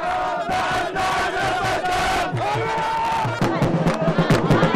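A large crowd outside Abu Ghraib prison, 20 miles west of Baghdad, cheers and shouts in celebration, voices overlapping into a loud, continuous roar with rising bursts of yelling toward the end.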